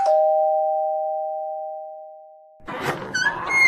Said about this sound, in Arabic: رن الجرس يلا بقى، الناس زمانهم مستنيننا.